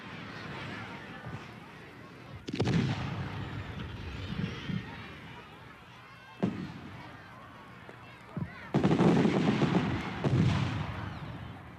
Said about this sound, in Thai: การไปดูการจุดพลุและการแสดงส่งท้ายปีที่ออสเตรเลียก็นับเป็นกิจกรรมที่คนส่วนใหญ่มักจะทำและออสเตรเลียก็เป็นประเทศที่เข้าดาวนับถอยหลังเป็นประเทศแรกๆในโลก